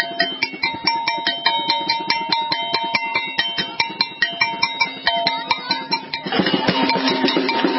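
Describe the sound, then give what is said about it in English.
A bell is struck over and over in a fast, steady rhythm, each clanging hit ringing with bright metallic tones, growing denser and more continuous toward the end. No one speaks. “So what brought you out here to bang on that bell there?”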